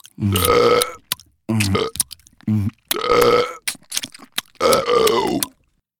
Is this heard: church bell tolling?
no